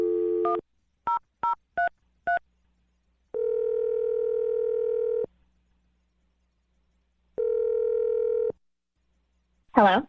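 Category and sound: signal or alarm, telephone number being dialed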